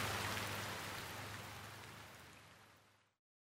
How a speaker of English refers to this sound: I hate this rain and the cold. Me too. Oh, mind the puddle. Ugh. I really hate this rain.